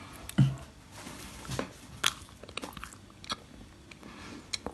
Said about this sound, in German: Vielleicht kann man sagen, dass du abgebissen hast. Sie hat gerade abgebissen. Man hört nicht viel, aber wir können einen kleinen Hint geben, ne?